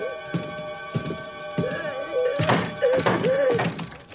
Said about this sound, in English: He kicks at the door.